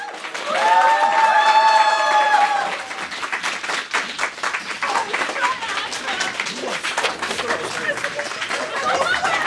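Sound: audience applause and cheering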